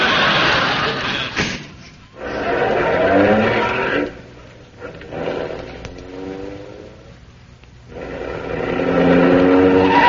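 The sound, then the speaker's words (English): A car engine revs hard in several loud bursts, its pitch sweeping up and down, with squealing tires and a brief thump early on. “Listen, will you please park that car carefully now?”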